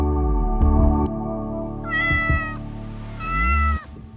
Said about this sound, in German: So klingt es bei uns zu Hause jeden Morgen gegen 6 Uhr. Die Katzen brauchen Fressen, und zwar subito.